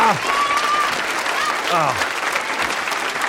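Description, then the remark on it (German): Steady, dense applause from the audience of an ARD television show in Mannheim, a continuous wash of many hands clapping with a few whistles and cheers rising out of it. “Willkommen, großen Applaus für unser Publikum.”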